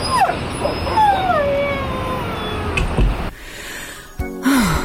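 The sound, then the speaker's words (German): Two dogs face off on a dog walk, one pulling on its leash, trading high, wavering whines and sharp yips in a tense back-and-forth, with a brief scuffle of noise before a final rising whine. “da kommt uns schon wieder ein anderer Hund entgegen. Aus, Lucky, aus! Hör auf jetzt zu ziehen und wehe, ihr beißt euch jetzt wieder”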